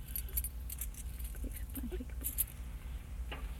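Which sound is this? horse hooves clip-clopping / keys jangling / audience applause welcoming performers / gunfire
keys jangling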